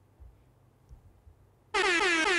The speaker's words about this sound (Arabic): لحظة خلنا نحط لها صوت الهرن. هذا؟ أي واحد.